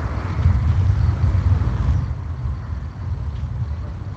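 Grad rocket launcher fire, from trucks launching rockets at Russian positions, heard in Kharkiv, Ukraine, rolls in as a continuous, heavy low rumble, steady for a few seconds and easing slightly toward the end, with no voices.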